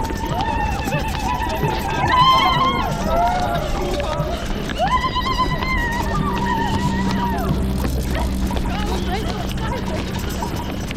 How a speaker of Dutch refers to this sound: We zijn bij Schiphol aangeland, met ongeveer 400 mensen. En vanuit de busjes en de klaar net je hoorde, boven ons hoofd aan het helikopter, rennen we richting startbaan.